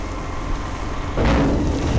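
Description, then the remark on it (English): A heavy garbage truck engine rumbles steadily, then grows louder and rougher about halfway through as it dumps a load of food waste (pumpkin shells, rotting apples and coffee grounds) for composting in Center County, with a broad rushing, clattering wash of noise. “It looks like a garbage truck and sounds like a garbage truck, but the pumpkin shells, rotting apples, and coffee grinds this truck is unloading will actually become something good.”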